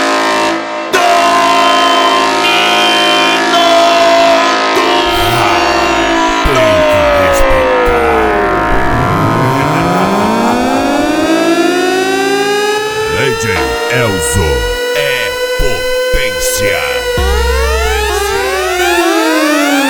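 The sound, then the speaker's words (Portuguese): A loud, blaring siren-like race horn (corneta do racha) wails continuously, its layered tones sweeping down and up in pitch in long glides, dominant with no talking over it. “corneta do racha. LTS, a corneta do racha.”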